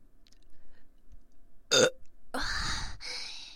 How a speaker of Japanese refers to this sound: やっぱり炭酸飲むとしっかりしたゲップが出る気がします。